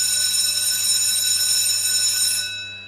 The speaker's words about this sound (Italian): suona sa campana.